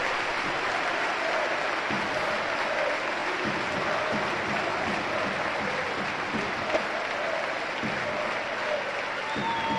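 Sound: stadium crowd ovation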